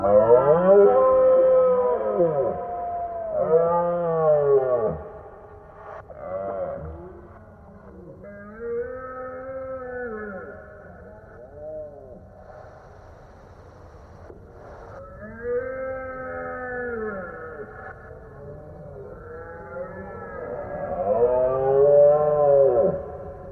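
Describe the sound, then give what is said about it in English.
Deep, drawn-out deer roars of the rut, altered for a music track to sound eerie and warped, with bending, overlapping harmonic tones that swell and fade over and over and grow loudest toward the end. “And particularly, I think that sound of the roaring deer”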